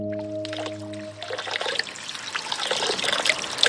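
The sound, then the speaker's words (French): Water trickles and splashes steadily from the Saint-Prié fountain, or Grande Fontaine, in the middle of the village of Volvic, a bright, bubbling patter that grows fuller over a few seconds. A low, steady hum sounds underneath at first and fades out. “Au milieu du bourg, on trouve une fontaine, la fontaine Saint-Prié, ou Grande Fontaine.”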